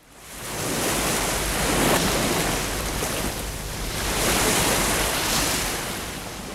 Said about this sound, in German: Zum Beispiel, wenn eine Welle am Meer bricht, weil Brasilien so viele Strände hat.